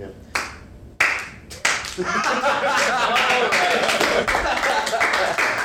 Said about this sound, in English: This is a slow clap.